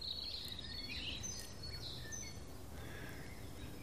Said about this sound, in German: Da ist es untermalt mit dem Amsel. Und wenn eine Amsel anfängt, werden die anderen kurz animiert, mit einzusteigen.